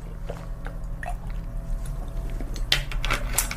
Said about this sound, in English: I'm going to close my eyes and drink some water real quick.